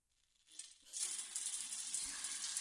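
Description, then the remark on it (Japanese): A shower starts up to rinse someone's body: a soft rising hiss, then a steady, loud spray of water running continuously with a bright, sizzling texture and no voices. “ほいじゃ、体流してあげる。シャワー貸して。”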